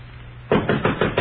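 Five quick, firm knocks rap on a bedroom door in a steady rhythm, each a solid wooden thud, following a brief stretch of low hum.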